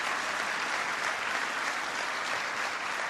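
Steady applause from a crowd for Secretary of Agriculture Tom Vilsack, a dense, even wash of clapping that holds at a constant level for the whole stretch with no voices standing out.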